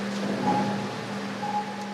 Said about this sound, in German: Weiter geht es entlang Klammerziegelwände. Wasser tröpfelt vom Gewölbe. Im Hintergrund hört man diffuses Wasser rauschen.